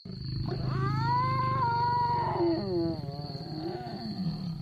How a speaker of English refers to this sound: From the strange roar of a lion to the unearthly hoot of an owl.